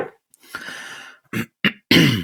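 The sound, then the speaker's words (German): A throat clearing: a long, raspy rumble followed by several short, harsh bursts of clearing, fairly loud, with no talking. “Ich darf mich nicht räuspern, sonst wird es zur Gewohnheit.”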